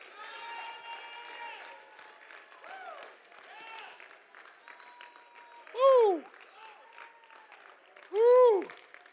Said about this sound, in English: Somebody clap your hands and shout to the Lord with a voice of triumph.